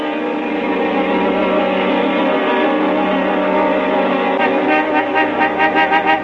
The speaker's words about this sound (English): You're honking at us, lady. How do you expect me to move my car with your truck in the way?